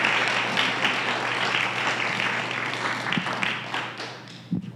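A crowd claps steadily in a dense, continuous burst of applause that holds at an even level before tapering off near the end, with no voices over it.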